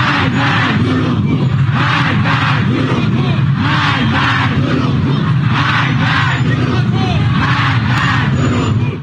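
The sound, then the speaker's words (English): A large crowd of Iranian protesters chants and shouts in loud, rhythmic unison, demanding that Supreme Leader Ayatollah Ali Khamenei step down after Tehran said its military mistakenly shot down a Ukrainian plane. The voices surge in repeated pulses over a constant roar of many people, with no pause throughout. “A group of Iranian protesters demanded Iran's Supreme Leader Ayatollah Ali Khamenei to step down on Saturday after Tehran said that its military had mistakenly shot down a Ukrainian plane, reports the Jerusalem Post.”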